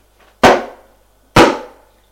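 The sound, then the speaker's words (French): A furious man pounds twice on a door that will not open, the blows about a second apart, each a loud thud with a short ringing decay. No voices are heard. “Ouvre ! Ouvre ! Il est furieux. Ouvre ! C'est moi ! Et cette porte qui ne veut pas s'ouvrir.”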